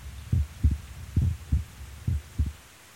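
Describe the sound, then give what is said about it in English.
A steady heartbeat of a man thumps low, heard with an ear laid on his chest, each beat a lub-dub pair repeating about every second over a faint hum, with no voices. “Could still hear his heartbeat then.”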